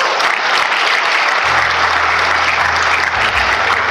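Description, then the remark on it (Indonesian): An audience bursts into loud, sustained applause for women, a dense wash of clapping that holds steady for several seconds, with a low hum joining underneath partway through. “Tepuk tangan untuk wanita.”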